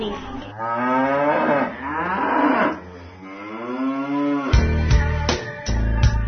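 A cow moos loudly, several long drawn-out calls that rise and fall in pitch, ending in a deeper, rougher low with a few sharp knocks.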